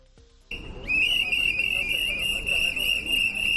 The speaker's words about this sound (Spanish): Con estos pitidos y ataviados con gorros, los miembros de la Asociación Consumor han realizado una protesta a las puertas de la estación del tren del Carmen.